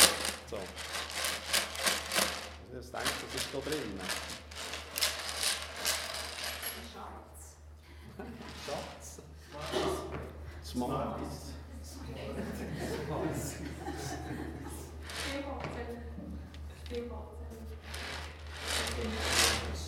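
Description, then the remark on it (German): A box is shaken in rapid bursts, its loose contents rattling in dense, bright clattering runs, with a few seconds of talking between the bouts of shaking. “Er hat mir so eine Kiste gezeigt, die ich so ein bisschen geschüttelt.”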